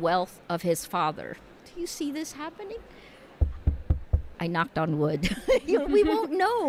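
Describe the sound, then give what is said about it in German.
A quick series of about five dull, hollow knocks on wood, loud, landing in a brief pause between stretches of people talking. “Ich habe gerade auf Holz geklopft.”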